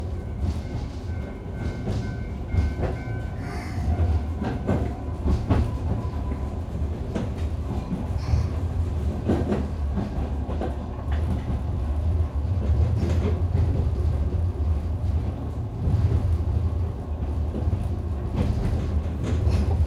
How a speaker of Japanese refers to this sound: シリンダーから蒸気を吐き出すブラスト音、ガタンゴトンとレールの継ぎ目を車輪が叩くジョイント音、ポッポッポッと煙突が煙を上げるドラフト音は、